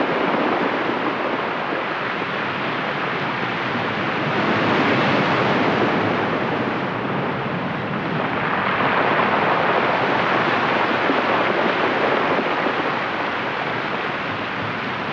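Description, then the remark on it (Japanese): Pacific waves surge and crash in a steady, dense roar of surf at Kamiwarizaki cape in Minamisanriku town, washing in between a rock split in two at the cape's tip, swelling louder twice as breakers rush in, with no voices present. “神様が割った岬、その言い伝え通り岬の先端には真っ二つに割れた奇岩があり、その間から太平洋の波が打ち寄せていました。”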